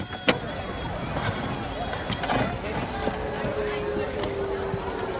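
A steady, droning engine rumble fills the inside of a car, with occasional soft clicks and knocks over the continuous road noise.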